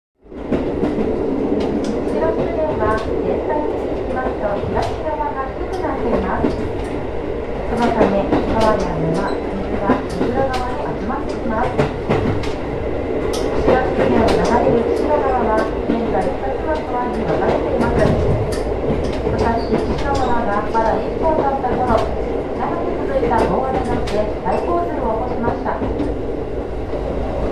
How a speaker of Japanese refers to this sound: ちょうどこの岩ほぎ水門でですね、あのまたまたあのスピードを落として、でじっくりあの見ていただこうということですの でこの場面もですね、ちょっとあの録音してきましたので、あの岩ほぎ水門あたりの、列車の音をちょっと聞いていただきたいと思います。